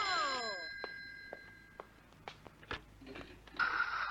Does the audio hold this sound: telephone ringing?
yes